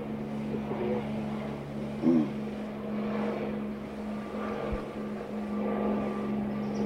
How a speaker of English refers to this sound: Let's wait for a minute. Let the plane pass.